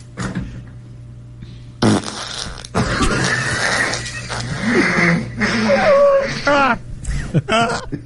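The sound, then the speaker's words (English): A long, drawn-out recorded fart rumbles and sputters for several seconds, loud, with squeaky rising tones and brief breaks before trailing off in a few final bursts. “That feels like a punch in at nine and leave at five farts.”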